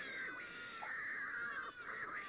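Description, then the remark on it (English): Cats yowling and screeching at each other in a fight, with drawn-out wavering cries that rise and fall in pitch, loud and continuous throughout and no talking. “Nothing like a cat fight, yeah.”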